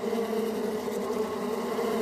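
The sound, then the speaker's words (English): A dense, continuous buzzing of a bee swarm, many overlapping wingbeats forming a steady droning hum at an even, moderately loud level with no pauses. “Here's a clip of an actual swarm of bees.”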